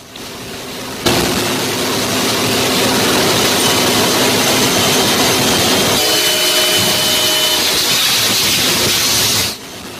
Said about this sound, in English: It's pre-dawn. It's dark out. And he sees a train go by. And despite the fact that the gates are down, the lights are a-flashing.